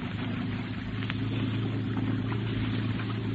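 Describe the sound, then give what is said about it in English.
A motorboat engine roars loudly and steadily, its deep throbbing drone holding constant at high power throughout, with no voices. “Open her up and get away, Scotty. Give her all she's got.”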